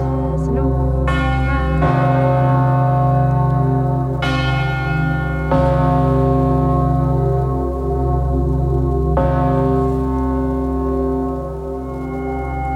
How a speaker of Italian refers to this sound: Realisticamente lo scompanio sparisce piano piano e fra poco comincerete a sentire l'elaborazione elettronica dei suoni della campana.